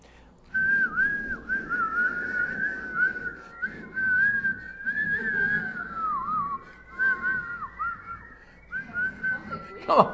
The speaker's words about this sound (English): I got more wind than whistle. Mine's a Holy Spirit whistle.